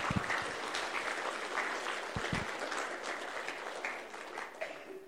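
A room full of people claps steadily for several seconds for a team of seven coming up, a dense, continuous patter of hands at moderate volume with a few sharper claps standing out near the start.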